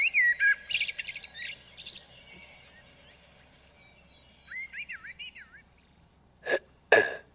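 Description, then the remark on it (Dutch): Electronic birdsong chirps from a novelty alarm clock bought at Blenheim Palace and used as a morning wake-up alarm: bright warbling tweets and trills, rising and falling whistles, then two sharp louder calls at the end, with no talking. “Een grappig klokje. En ja, dat 's ochtends word ik dus als volgt wakker.”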